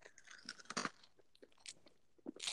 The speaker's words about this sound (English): Have you guys been hearing my crunch ASMR? This whole time?